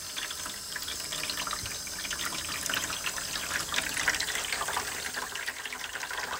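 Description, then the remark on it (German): Water runs steadily from a canister tap, a continuous splashing trickle that stays even throughout, with no voices over it. “Das heißt, du machst deine Zahnbürste nass und machst danach den Kanister wieder zu.”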